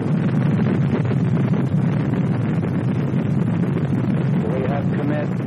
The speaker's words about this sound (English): We have liftoff. Liftoff at 7:51 a.m. Eastern Standard Time.